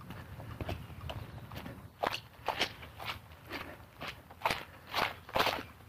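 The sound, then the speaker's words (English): Footsteps crunch and crackle through dry leaves and small branches cut off the trees by a hail storm, at a steady walking pace, softer for the first couple of seconds, then a run of sharper, louder steps with no talking. “I'm walking through leaves, small branches that have been cut off the trees.”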